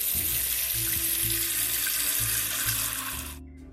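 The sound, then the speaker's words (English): A faucet runs steadily into a large pot being filled with water to cook pasta, a loud, dense rush of water with low hollow resonance that rises in pitch as it fills, then cuts off abruptly near the end. “And the next thing I'm going to do is get a big pot, and I'm going to fill that with water to cook our pasta.”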